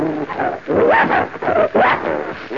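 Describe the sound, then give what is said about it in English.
Several bloodhound dogs, including one named Prince, bark and growl in loud, overlapping bursts, with a few whining, rising yelps mixed in and brief gaps between the outbursts. “Smart little doggy. Smart little dog. You all want to eat.”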